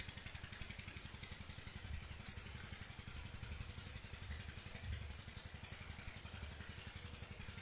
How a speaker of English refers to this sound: The next exercise is bring your mind away from the water pump, if it goes there, by directing it to other sounds which are here in the kunja, in the forest grove.